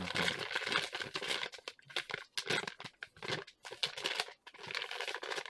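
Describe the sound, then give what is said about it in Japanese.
Busy crinkling and rustling of plastic wrapping being handled and pulled open around a large, heavy 580 g item from a box, with irregular bursts of crackle and brief pauses, no talking. “開けます。あ、なんかビニールの中に入ってますね。”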